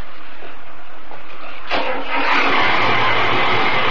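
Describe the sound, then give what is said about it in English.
A boat engine starts: a steady low hiss, then a sudden burst at the catch, and the motor settles into a loud, continuous rumbling drone that grows slightly fuller. “Try the engine now.”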